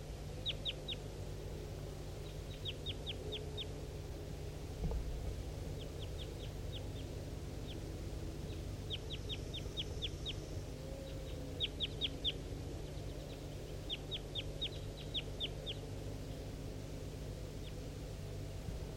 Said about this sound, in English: That was a wild bird. Stop. Start recording the wild bird again.